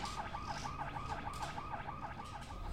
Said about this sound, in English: The CO rushes off, leaving Gailey's lifeless body and alarms echoing throughout the building in his wake.